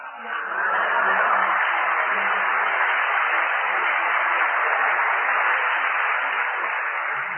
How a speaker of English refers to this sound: He deserved the applause.